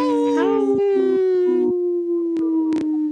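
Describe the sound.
Several people howl like wolves together during a radio show segment sponsored by Howling for Wolves, long loud wavering tones that rise and then hold steady, with short breathy bursts cutting in near the end.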